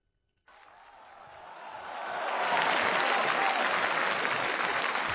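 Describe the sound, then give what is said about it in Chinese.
A large audience at a 10th-anniversary Chinese quyi performing-arts celebration show breaks into applause, starting abruptly and swelling steadily over a couple of seconds into a loud, dense, sustained wave of clapping with no voices. “谢谢敬爱的观众对我们的厚爱啊，哈哈，哎呀，掌声太热烈了。”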